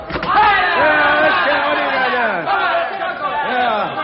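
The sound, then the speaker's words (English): A brief knock or thud at the start gives way to a loud crowd of many agitated voices shouting and clamoring together, sustained without pause for several seconds, as a door is opened onto the crowd. “Did you say open the door, Bill?”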